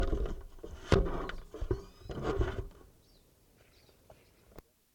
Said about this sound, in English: At 237, a large flock of type 2 crossbills have just come in. And bird 387 was calling loud.